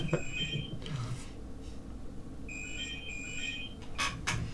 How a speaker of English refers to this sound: Oh, that's your phone.